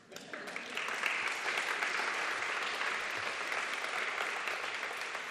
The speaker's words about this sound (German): Vor allem mit den Trägern der Schwangerschaftsberatungsstellen, die im Rahmen ihrer psychosozialen Beratung zu den Themen Verhütung, Partnerschaft und Kinderwunsch großartige Arbeit leisten. Da darf man auch ruhig mal klatschen.